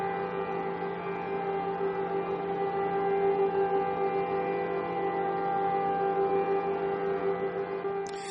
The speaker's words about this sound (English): In Israel, solemn observances of Yom HaShoah, Holocaust Remembrance Day. People throughout the country stood at attention while sirens sounded in memory of the 6 million Jews killed by the Nazis.